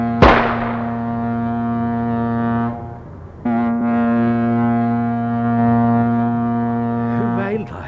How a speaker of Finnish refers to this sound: Kyllä, minä kuulin, kun laivan torvi huusi.